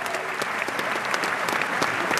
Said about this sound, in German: Der Applaus, der gehört der Guggenmusik Messingkopf. Die ist also super.